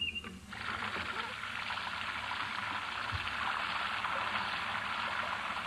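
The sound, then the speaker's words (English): Steady rain hisses without a break after a brief quiet start, a dense, even wash of patter that holds at a constant moderate loudness throughout. “It sounds like rain.”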